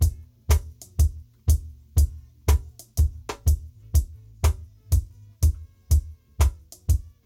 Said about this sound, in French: Alors ici, nous avons également un Charleston, une Charleston plus exactement.